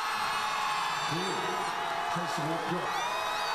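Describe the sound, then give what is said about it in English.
A large crowd roars and cheers in a dense, sustained wash of noise as South Korea's National Assembly approves the impeachment motion against President Yoon Suk-yeol. Individual whoops and shouted voices rise and fall through the steady din. “That sound of a large crowd cheering as Parliament approved the impeachment motion against South Korea's President Yoon Suk-yeol.”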